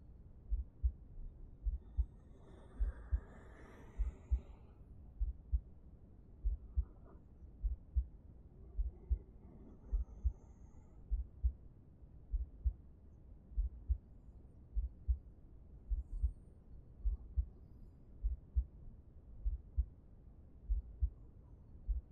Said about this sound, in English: Put your hand to my chest. Hear my heartbeat.